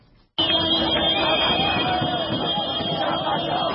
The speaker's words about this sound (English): The wild cheers and car horns of Zimbabweans celebrating the end of Robert Mugabe's iron-fisted rule.